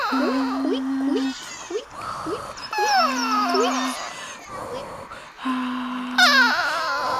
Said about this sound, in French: La balançoire grince fort.